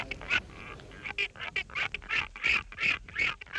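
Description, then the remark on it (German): Repeated harsh, nasal calls of albatrosses in quick succession, a chattering, honking series of squawks, fairly loud, with no voices over it. “Schnatter, schnatter, hoffentlich noch lange.”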